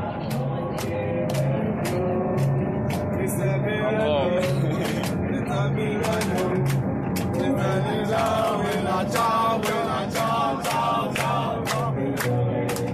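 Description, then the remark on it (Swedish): A large crowd of boat refugees, finally getting off their boat on the Tuscan coast of Italy, sings the Second World War partisan song Bella Ciao together in loud, ragged unison, with sharp rhythmic hand claps keeping a steady beat throughout and voices rising and falling. “men först kan man bara lyssna på hur det lät när de här båtflyktingarna då till slut får kliva av båten. De gjorde det också till sång.”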